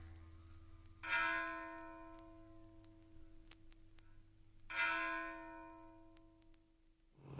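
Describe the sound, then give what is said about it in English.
A Protestant church bell tolls twice, slowly and several seconds apart, calling to a service, each strike ringing out and fading in a long, humming decay, with no voices present. “One of the last and saddest memories I have of the Protestant Church is hearing the bell ringing, calling a non-existent congregation to service.”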